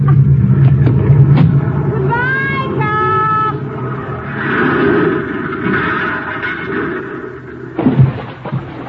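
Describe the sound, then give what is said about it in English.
A car engine rumbles loudly, revving up with a rising whine as it pulls away in first gear with its hand throttle pulled out after the driver gets out, on a road above a river, then a brief thump and clatter near the end. “I place the car in first gear. And then I pull the hand throttle out a little, turn the wheel, and get out!”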